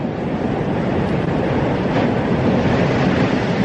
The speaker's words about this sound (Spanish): Este sonido está tomado con un dron a pocos metros sobre el cono principal del volcán. Incluso se podría confundir con el sonido de las olas del mar, pero precisamente es justo lo contrario. Es puro fuego.